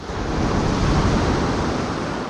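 Pacific Ocean waves wash and break steadily on a shore where a river meets the sea, delivering gravel and pebbles, a loud, continuous roar of surf with a broad hiss and no voices.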